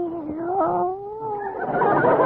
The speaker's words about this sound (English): Meow. What's that? Oh, it's your cat. Hello, Minerva.